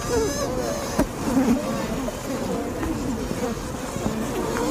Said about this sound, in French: Je sais pas si on entend comme des espèces de petits cris. Mm-hmm. En fait, c'est un mouvement qu'elles font avec leurs ailes pour appeler à l'aide parce qu'il y a des frelons asiatiques à l'entrée de la ruche ou du nid et qui menacent la colonie.